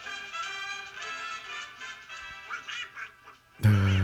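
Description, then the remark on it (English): A voice does a garbled, nasal Donald Duck quacking impression, a run of buzzy, sputtering squawks lasting a few seconds, ending in a sudden louder burst. “That's how you make a Donald Duck, huh?”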